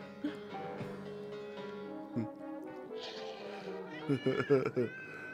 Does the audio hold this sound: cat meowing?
yes